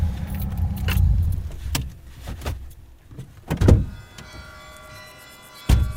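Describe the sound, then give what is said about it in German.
Keys jangle and clink at a Lada car, with a low engine rumble early on, a few sharp thunks like doors or handles, and a final solid door slam. “Vitali Georgievich nimmt uns mit in seinem Lader auf den Soldatenfriedhof.”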